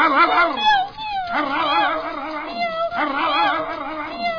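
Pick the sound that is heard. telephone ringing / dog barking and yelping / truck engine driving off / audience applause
dog barking and yelping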